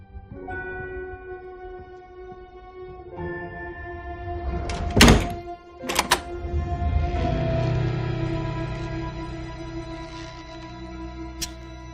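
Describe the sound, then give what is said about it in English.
In the Christmas movie Better Watch Out, a door is pushed shut with a solid thump, followed a moment later by a second knock or latch sound, over a steady low hum and faint tonal background, with no one talking. “You forgot to shut the door, doofus.”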